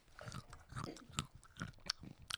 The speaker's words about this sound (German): du meintest gerade was vom ASMR und wir haben hier Nüsse legen. Nüsse. So, und jetzt esse ich die.